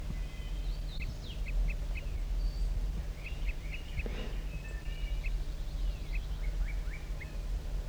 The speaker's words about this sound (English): Now I've got a pair of crossbills in that lone pitch pine right near the net site. Stop. Start recording. The male's wing fluttering just slightly and singing.